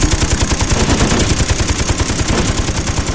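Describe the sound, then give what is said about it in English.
Rapid, continuous machine gun fire aimed at an incoming missile rattles in a steady stream of loud, evenly spaced bursts with heavy low thumps, running unbroken for the whole stretch with no voices. “Unexpectedly, the machine gun stopped firing, and in the ringing silence, the beeping of the radar could still be heard, but different, slower and less urgent.”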